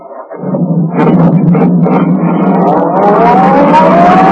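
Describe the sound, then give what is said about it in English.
A sedan's engine roars loudly and continuously, its pitch climbing steadily as it accelerates and speeds along a concrete road, with no voices. “Turning onto the road, the tree pressed down on the accelerator. The sedan sped along the concrete after Brinkley's car.”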